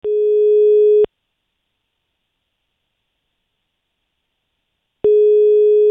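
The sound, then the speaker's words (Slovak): A steady electronic telephone ringback tone sounds loud, one roughly one-second burst, then four seconds of silence before the next burst begins, as a radio station calls a listener drawn in a prize draw a few days before Christmas. “A teraz, v pondelok, pár dní pred vianočnými sviatkami, ideme žrebovať a telefonovať a niekoho teda pred tými najkrajšími sviatkami potešíme.”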